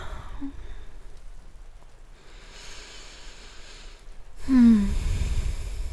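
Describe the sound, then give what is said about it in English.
Steady, soft rain hisses outside, an even wash of patter throughout, with a brief breath or sigh near the end. “It's raining.”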